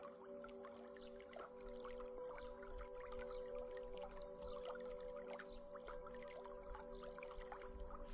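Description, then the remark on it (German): Soft, steady lapping of stream water with small drips and splashes scattered throughout, layered over a low sustained hum, with no one speaking. “Sanft wiegen uns die Wellen des Baches.”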